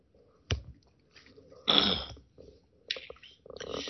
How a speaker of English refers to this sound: Take a sip of water.